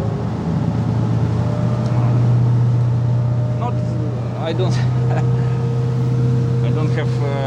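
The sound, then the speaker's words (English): A coastal patrol boat's engine drones steadily and loudly at sea as the boat changes course away from the Russian fleet, a constant low rumble with wind and water noise, while muffled voices briefly come through beneath it. “Back on the coastal patrol boat, we change course safely away from the Russian fleet.”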